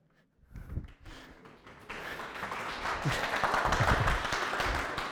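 A crowd breaks into applause after a song is sung, starting with a few scattered claps and swelling into steady, dense clapping from many people that stays loud through the end.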